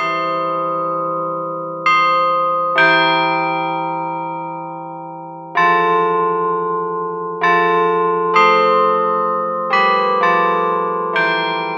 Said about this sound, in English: The cast bronze carillon features European cast bells, selected for their quality to make the melody line of a song clear, even from a distance.